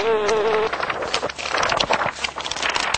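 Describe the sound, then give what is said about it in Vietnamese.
A bee buzzes loudly, a steady droning hum at first, then breaking into rougher, erratic buzzing and fluttering as it struggles to fly while its leg is tied by a thread, with no voices. “Ong sợ cuống cuồng, cất cánh toàn bay, nhưng không sao gỡ chân ra được, làm kêu lên những tiếng ồ ồ như người đọc sách.”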